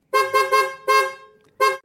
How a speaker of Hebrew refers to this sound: ובאמת, וואלה, מאיפה מגיע הקצב הזה? כי... אתם מכירים את זה מן הסתם, כולם מכירים את... אתם יודעים שאם מישהו עושה... אז אתם יכולים להשלים לבד את ה... אנשים באוטו צופרים...